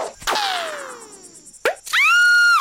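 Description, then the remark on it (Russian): A sharp, cartoonish shot cracks out as a hedgehog, eyes shut, fires at random, followed by a ringing tone that slides downward and fades. A second short hit comes after, then a loud, sustained high-pitched wail as the shot hits Nyusha, who screams. “Наконец, ежик зажмурился и выстрелил наугад.”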